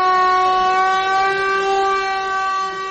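A general danger air-raid siren in Mostar, sounded on the anniversary of the destruction of the Old Bridge, wails in one long, steady, loud tone with a rich buzzing timbre, holding its pitch without a break. No voices are heard.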